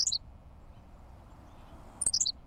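henslow's sparrow song

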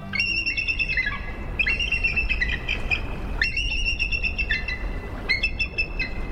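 eagle calls

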